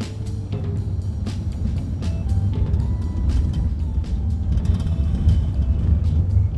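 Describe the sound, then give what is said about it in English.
A steady, heavy low rumble of a mobile food truck packed with meals and beverages driving down O.C. Haley Boulevard to deliver, with faint rattles and brief clicks scattered over the constant engine and road drone. “We're driving down O.C. Haley Boulevard”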